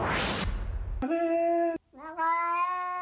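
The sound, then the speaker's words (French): A brief rush of noise, then a small cat meows twice, two drawn-out, clearly pitched cries with a short gap between them, so the pair sounds almost like the French word "arrête". “Eh ben, écoutez, il y a un petit chat qui dit arrête.”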